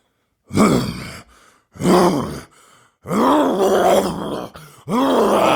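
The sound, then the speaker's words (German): A person imitates a lion's roar with four loud, rough, growling vocal bursts, the last two longer and sustained, separated by short breathy pauses. “Das ist ein Hengst, das ist ein Pferd. Nein? Löwe. Ja.”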